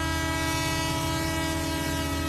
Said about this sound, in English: That's a big boy coming through there. That's commuter rail right there. Yeah. That's a big commuter rail.